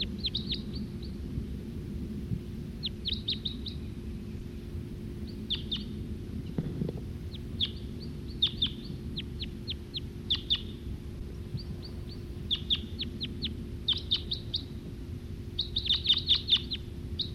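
male bird singing

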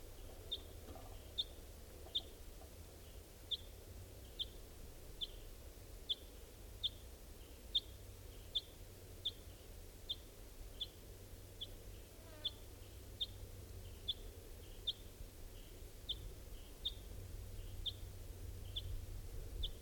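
crossbill calls

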